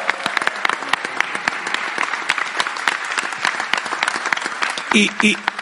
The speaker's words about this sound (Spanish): Un gran aplauso.